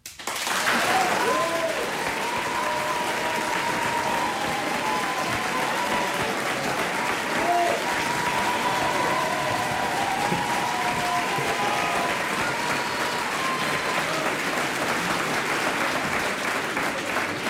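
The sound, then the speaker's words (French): Audience applause in the Vieux Colombier hall, measured on an applause meter as a vote for Clemenceau: a dense, steady round with many hands clapping at once, holding loud and even for the whole stretch with no voices breaking through. “Je mets à l'applaudimètre.”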